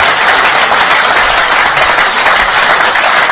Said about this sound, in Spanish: La gente aplaudía al chamán.